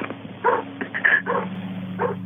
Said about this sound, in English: She hears car tires and dogs barking, but they're not sirens.